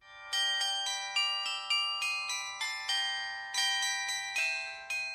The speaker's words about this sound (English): Those are the bells of St. Johann's Church in Davos, Switzerland, about which there is this story to tell you. The church was built nearly 700 years ago, and over time, its spire was twisted by the stiff alpine winds, the story goes.